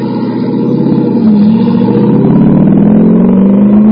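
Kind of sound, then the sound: vehicle, sports car engine revving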